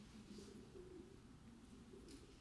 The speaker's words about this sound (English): The birds are happy. You mention a chicken and the doves start getting really excited.